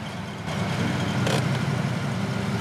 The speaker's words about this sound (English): Alex pulls up and parks near the curb on a residential road.